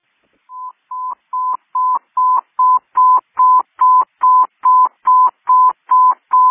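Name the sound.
telephone DTMF dialing tones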